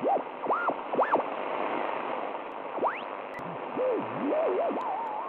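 Loud, steady radio static hisses through a device's speaker as it is switched on by its knobs, with warbling whistles sweeping up and down in pitch over the noise. No voices come through.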